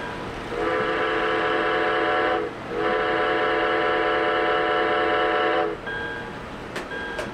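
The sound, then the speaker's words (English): A steam train's whistle sounds in two long, loud chord blasts, the first about two seconds and the second about three, over a low rumbling background of the locomotive. “The sight of it, the sound of it, the smell of the coal, the smell of the burning oil, and the sound of the whistle, all that, it just got into my blood.”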